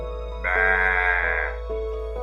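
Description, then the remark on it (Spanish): A single sheep bleats once, a sustained wavering baa lasting about a second, fairly loud over a steady low hum, followed by a fainter short call. “Permite que una de las ovejas se aleje un poco de sus compañeras para acercarse hacia ti con mansedumbre.”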